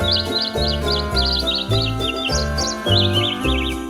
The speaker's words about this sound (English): Now that your holiday shopping list is figured out, enjoy this bird singing jingle bells.